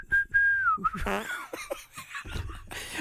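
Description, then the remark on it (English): A person whistles a short melodic tune from a pop song, a steady clear tone that wavers in pitch for under a second, then breaks off into laughter and breathy vocal noises. “Don't make me laugh because I can't whistle if I'm laughing.”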